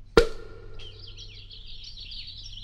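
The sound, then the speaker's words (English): A sharp pop as a cork is taken out of a bottle, then steady high warbling chirps like a nightingale's song continue without pause, fairly clear, with no talking. “These nightingale's tongues aren't well-seasoned at all. They're still chirping.”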